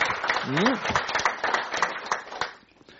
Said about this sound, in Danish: Thomas Nislev er selskabets revisor fra Beierholm. Vi foreslår, bestyrelsen foreslår, at Beierholm genvælges, og Thomas har lovet, at han fortsætter. Hvis I klapper, så er Thomas genvalgt.